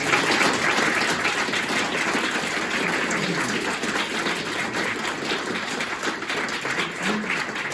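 A crowd applauds steadily, a dense wash of many hands clapping at an even, loud level for several seconds without anyone speaking over it.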